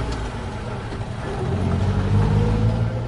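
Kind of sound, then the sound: vehicle, taxi car driving off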